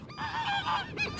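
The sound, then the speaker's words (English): Geese honk in a brief burst of harsh, nasal calls, several overlapping honks followed by a short pause and one more squawk, with no talking. “2 out of 3 geese.”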